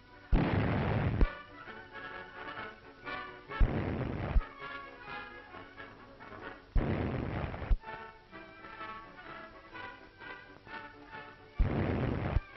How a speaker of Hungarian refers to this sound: Jól rejtett tüzérütegek támadják a finn gyalogságot küzdelmében.